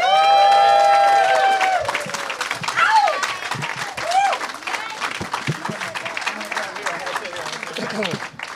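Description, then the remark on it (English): A crowd applauds and cheers loudly as four guests are introduced, with dense steady clapping and high whoops and shouts rising over it, most intense at the start before settling into sustained clapping with scattered yells. “Please give it up for”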